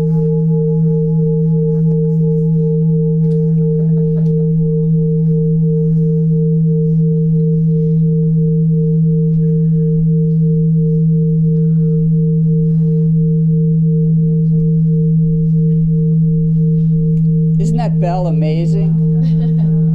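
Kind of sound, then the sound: signal or alarm, meditation bell ringing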